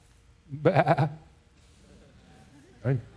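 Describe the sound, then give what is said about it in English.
A voice imitates a sheep bleating: one long, quavering, pulsing bleat, then a short pause and a brief second bleat, fairly loud. “The sheep looking for the shepherd.”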